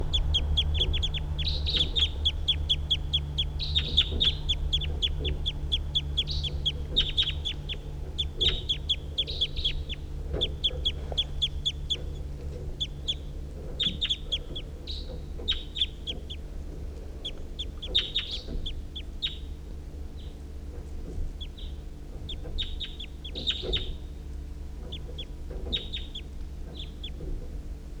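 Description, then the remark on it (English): Two wild birds call again and again in quick, high-pitched chirps and clucks. The calls come in bursts across the whole stretch over a steady low rumble, and no one speaks. “recording the wild birds.”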